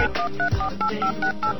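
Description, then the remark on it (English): Touch-tone keypad beeps as a phone number for an Arby's in Eagle River, Alaska, is dialed: a quick, steady run of about eight short dual-tone beeps, clear, with no talking. “Please enter the area code and phone number you wish to call.”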